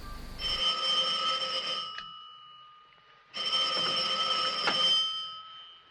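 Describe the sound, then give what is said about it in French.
A telephone rings twice for a 7 a.m. wake-up call, each bright, trilling burst lasting about two seconds with a short pause between. The ringing is loud, with no voices. “Allô ? Allô, ici le service du réveil. Il est 7h, monsieur.”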